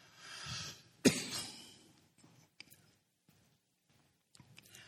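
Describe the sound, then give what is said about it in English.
A man coughs into the microphone: a rasping buildup breaks into one sharp, harsh cough, followed by a few faint throat clicks and breaths in near silence. No one speaks. “But now I can't preach because I'm coughing like this.”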